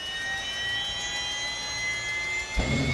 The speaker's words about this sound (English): who fires up his helicopter to do his daily rounds.